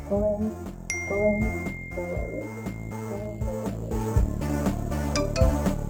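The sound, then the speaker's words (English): A single bright ding, like a phone notification tone, rings out and lingers as a thin sustained pitch over a steady, busy musical backing with a low pulsing beat. “I drop to the tone. I drop from my phone.”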